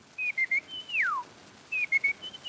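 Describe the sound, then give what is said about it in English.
A person whistles an imitation of a California quail call: three short high notes, a long downward-sliding whistle, then another quick three-note phrase, clear and fairly loud with no talking. “To have it through some media is actually less wonderful and less amazing than to see a human being with the sound of a bird coming out of them. Plump little California quail.”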